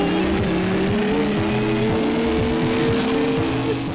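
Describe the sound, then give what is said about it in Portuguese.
A loud, continuous futuristic racing car engine from the video game Top Gear 3000, a droning, whining hum holding a nearly steady pitch with slight wavers, with no voices over it. “Aí o barulho do carro é insuportável.”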